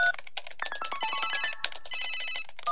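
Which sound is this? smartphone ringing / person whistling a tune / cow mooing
smartphone ringing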